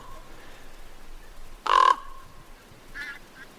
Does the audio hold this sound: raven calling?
yes